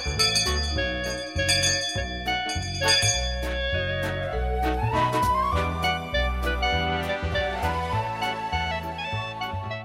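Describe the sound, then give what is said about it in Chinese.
The opening bell chime of the radio program 每周辅导教室 (Weekly Counseling Classroom): a bright, melodic chime rings out in a steady sequence of struck tones, each note overlapping the next with a sustained shimmer, played alone with no voices. “每当听这个铃声的时候呢，特别感到亲切，也非常的高兴，知道收音机旁边很多的人在等着上课。”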